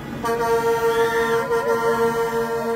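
Loud horns of trucks in a convoy of anti-vaccine demonstrators clogging roads in Ottawa, Canada, for a third day, blare in a long, unbroken blast, with other horn tones rising and falling over it, a continuous overlapping din outdoors and no voices.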